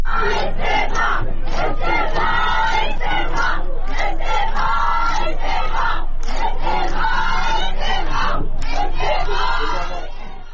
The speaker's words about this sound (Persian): گروهی از ساکنان شهر تبریز امروز در اعتراض به قتل سگ‌های بی‌سرپرست توسط شهرداری مقابل ساختمان شهرداری تبریز تجمع کردند. تظاهر کنندگان در این اجتماع با دادن شعارهای خواهان استعفای شهردار تبریز شدند.